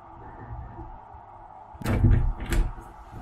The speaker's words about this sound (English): Is that a door?